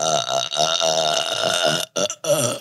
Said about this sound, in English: Oh my gosh. She's having a burp attack. She's doing it again? Just let it rip.